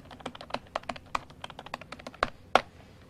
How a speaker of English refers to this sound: Man, they are acting the hell out of that typing.